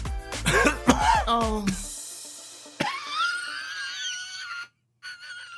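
A loud burst of coughing that runs together with laughter in several choppy, voiced pulses, followed by a thin, high wheezing squeal that trails off.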